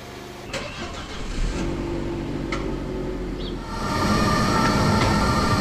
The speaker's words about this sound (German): Denn eine Hälfte der Rabe-Räumlichkeiten liegt direkt an der Bahnlinie. Seit einiger Zeit schützt eine Schallmauer vor zu viel Lärm. Doch laut ist nicht nur der Zug.